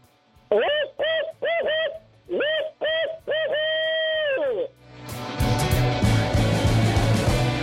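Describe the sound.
A human voice imitates an owl to call owls in, giving clipped hoots in quick bursts and then one long, drawn-out call, clear, before loud music takes over.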